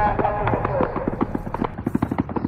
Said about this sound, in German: Kurz danach fallen erste Schüsse. Mit Pickups, Motorrädern und Quads stürmen die Terroristen das Festivalgelände, feuern aus ihren Kalaschnikows wahllos in die Menge flüchtender Festivalbesucher.